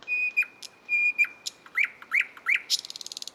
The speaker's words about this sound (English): Nearly half of all the birds on Earth are what is known as songbirds, and most of them are able to produce elaborate songs, like this one from the nightingale.